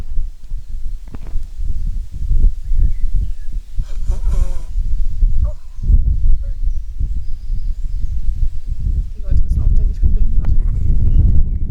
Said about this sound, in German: Einmal Nase putzen. Das tut mir jetzt nämlich richtig leid, weil das wird laut.